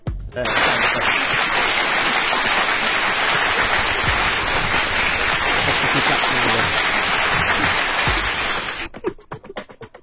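applause sound effect

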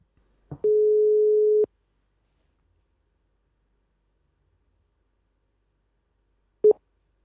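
telephone ringing tone

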